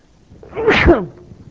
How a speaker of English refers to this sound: Excuse me, I'm about to sneeze here.